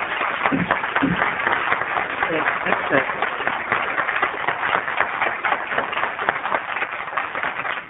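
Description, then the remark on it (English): Steady applause from an audience at a subcommittee budget hearing, dense and continuous for several seconds, fairly loud, with no voices standing out above the clapping. “I usually clear the hall if there's any, if there's any booing or shouting or clapping, but this is okay.”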